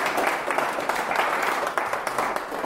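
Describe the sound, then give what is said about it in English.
An audience applauds the worship leaders, a dense, steady wash of many hands clapping at once without pause for a few seconds, with no voices standing out. “How about we give a round of applause for the guys leading us in worship?”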